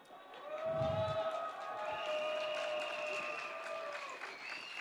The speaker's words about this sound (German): Ich hätte nicht gedacht, dass ich Applaus bekomme, aber immerhin.